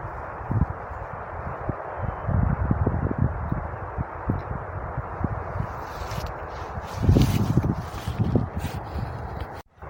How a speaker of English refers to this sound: You will be able to probably hear the traffic. It's very, very busy on the M1 at the moment.